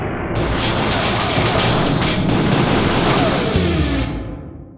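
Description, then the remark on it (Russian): A loud, sustained crash roars for several seconds, dense, with bright rattling debris of shattering glass as a laboratory door breaks off its hinge, before it tapers off and fades at the end. “Сейчас 3:25», — начал Роман, и тут раздался грохот.”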